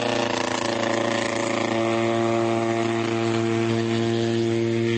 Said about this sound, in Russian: Закончилась на селе уборочная эстрада, и шум моторов комбайнов сменился непривычным для этих мест шумом работающего авиационного мотора.